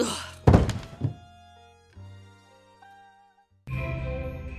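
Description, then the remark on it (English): A single heavy thunk of a blow behind the ear knocks Richard Rogue unconscious, followed by a few fading, woozy ringing tones that drift and hang before a burst of noisy sound returns. “Burgess let out when I caught that suck behind the ear and drifted gently through space towards cloud number 8 and my alter ego.”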